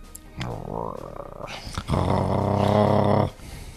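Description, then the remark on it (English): A low, rumbling animal growl from outside a door rises in two stretches, the second louder and sustained for over a second, menacing with a harsh, rasping texture. “Otto restrains himself as we hear an ominous growl from outside the door.”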